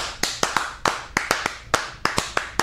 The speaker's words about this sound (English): Can we, we got to clap it up. We got to clap it up.